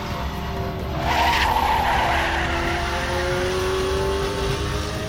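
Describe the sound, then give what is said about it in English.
Macklin's Austin Healey race car brakes hard behind Hawthorn's slowing Jaguar, its tires skidding with a sustained squeal over a steady engine drone that shifts downward in pitch, loud with no voices. “With Hawthorn slowing down in front of him, Macklin brakes hard, but it's not nearly enough to avoid a collision.”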